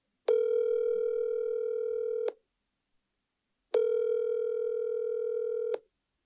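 Two long, steady telephone line tones, each buzzing for about two seconds with a short silent gap between, heard clearly and alone with no talking.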